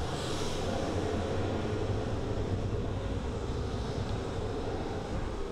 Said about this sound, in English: And then we've got jet flybys. So we can have jets sound like they're circling through.